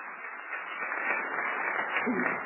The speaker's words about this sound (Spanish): Un aplauso, por favor, para la consejera Adriana Favela.